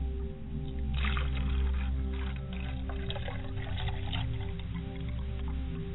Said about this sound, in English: You are standing on holy ground, and as I pour libation, I will pour libations to the east, west, and south in all four cardinal directions.